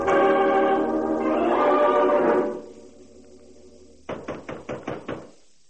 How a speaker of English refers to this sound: There was no answer to my knock. I pushed it open and held my gun ready.